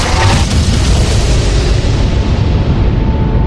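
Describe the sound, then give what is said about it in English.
A loud, rumbling explosion as disruptor towers outside a hotel go up in gouts of flame: its broad blast sustained and slowly thinning into a dense, crackling low-end rumble across the whole stretch, with no voices. “The disruptor towers disappeared in gouts of flame and explosion that blotted out the rainbow effect.”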